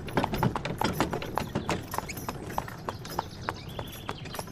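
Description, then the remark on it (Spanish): A horse trots along the country road from Bethany to Jericho, its hooves clip-clopping in a steady, brisk rhythm of sharp knocks, the clatter continuing throughout at moderate loudness with a faint background hum. “Se ocupa solo de guiar el caballo.”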